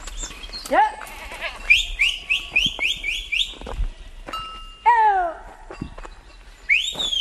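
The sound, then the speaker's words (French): A herd of Corsican goats bleats in a busy, overlapping chorus in thick maquis scrubland with arbutus, oak and pine, with repeated wavering calls from several animals and a few high, thin cries, and no talking. “Et c'est quelle race de chèvre qu'on a ici ? Uniquement des Corses.”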